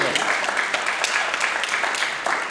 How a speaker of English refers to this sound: We really enjoy getting applause for just hanging around. It's great. It's always a wonderful thing.